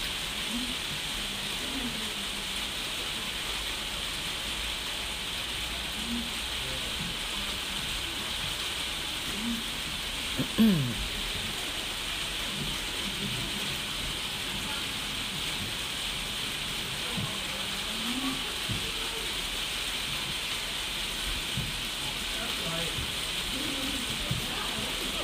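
heavy rain falling

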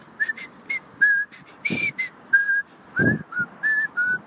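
person whistling a tune

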